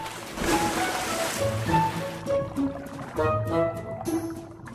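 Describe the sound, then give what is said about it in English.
A large animal rolls and splashes heavily into its water tank at a theme park, followed by churning, sloshing water, with steady tonal sounds humming underneath. “rolls into his water tank.”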